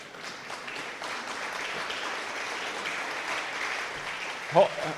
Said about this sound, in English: Hold your applause. Let me get the rest of them up.